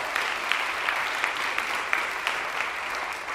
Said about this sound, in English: And as we've welcomed others with a warm applause, let's do the same